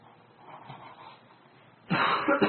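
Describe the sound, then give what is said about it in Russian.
A quiet hum gives way to a sudden loud cough near the end, a sharp burst followed quickly by a second shorter one, with no talking. “Не кашляйте, звук тихий, поэтому слушайте.”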